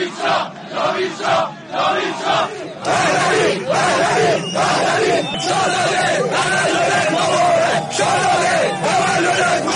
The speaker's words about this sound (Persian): در گرده همایی سال پیش همچنین برای نخستین بار فریادهای جاوید شاه و به مناسبت نزدیکی 9 آبان زادروز شاهزاده رضا پهلوی شعارهایی سر داده گشت.